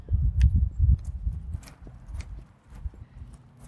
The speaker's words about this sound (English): Okay, we'll take you on a little tour. We'll start walking. Let's walk to one of my favorite spots where we're going to talk about our Try This at Home.